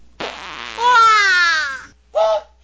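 A long, buzzing fart with a wavering, rising-then-falling pitch lasts well over a second, then a short, sharper toot follows after a brief pause. No one talks over either.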